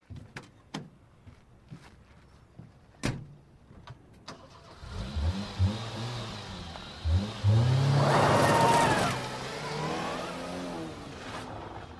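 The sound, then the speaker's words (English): A few sharp clicks and thumps like a car door, then an engine cranks, starts and revs up, settling into a steady running drone as the car pulls away. No one speaks. “She ran and got in the car and drove away.”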